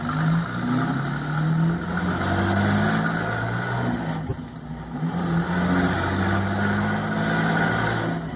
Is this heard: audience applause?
no